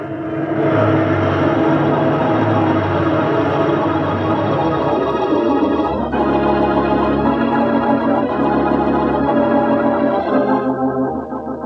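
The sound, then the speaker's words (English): A loud, sustained whine of an airplane in a spin, thick with layered tones that hold steady, then shift in pitch about halfway through and again just before the end. No voices are heard. “There it is, the sound all airmen dread, the whine of a helpless plane in a spin.”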